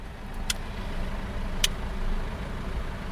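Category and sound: vehicle, cars idling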